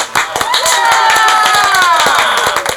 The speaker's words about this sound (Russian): Собственно, с этого события люди и начали выражать знаки одобрения похлопыванием щек, ладошей, плеч и других выступающих частей тела. А мы получили прообраз современных аплодисментов.